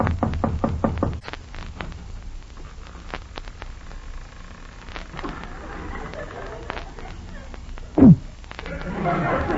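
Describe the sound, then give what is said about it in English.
Five or six firm, loud knocks on the wooden door of a house in a quick, even run, followed by dim rustling and a brief creak near the end. “Knock on the door.”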